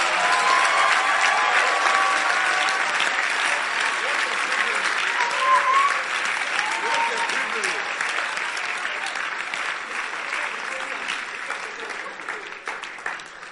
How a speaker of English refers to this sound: Oh, you are not clapping properly.